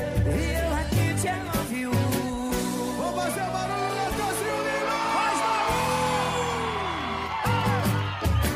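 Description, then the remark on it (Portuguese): A crowd shouts and whoops in rising, sliding cries over a loud, steady party track with a thumping bass, the excited voices overlapping continuously throughout. “Quem gostou da grita aí?”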